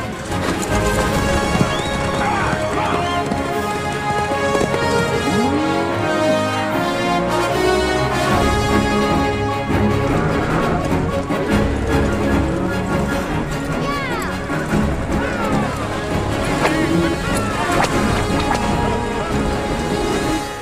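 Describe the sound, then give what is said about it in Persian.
Loud, continuous clatter of many hooves as a herd of cattle is driven along toward a dock, with horses whinnying now and then and a dense wash of sound filling the background throughout. “دارن گاوه رو به سمت اسکله میبرن.”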